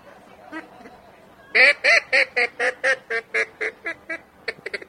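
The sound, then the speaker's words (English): A low-quality duck call blown loud: a few soft quacks, then a quick run of about a dozen evenly spaced nasal quacks in feeding-chatter rhythm, slowing slightly toward the end. “Ooh, good feeder.”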